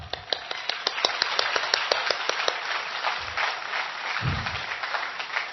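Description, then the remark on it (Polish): A crowd applauding, with a dense wash of clapping and a few sharper, distinct claps standing out at the start, continuing steadily at moderate loudness without any talking. “To teraz były brawa krytyczne co do tamtej koleżanki.”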